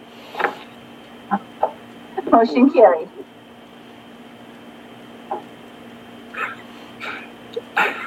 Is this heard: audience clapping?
no